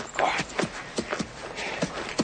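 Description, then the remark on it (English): A horse's hooves clip-clop at an unhurried walk with a rider sitting astride, a string of crisp knocks falling in a loose, uneven rhythm over a soft background hush. “He is a mighty horse. Walk along, boy. Go on.”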